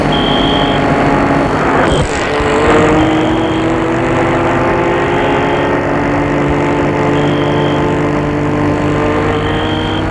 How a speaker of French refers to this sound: La voiture s'est mise en route. Elle s'éloigne.